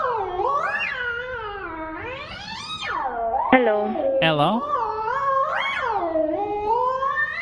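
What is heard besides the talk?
cat meowing and yowling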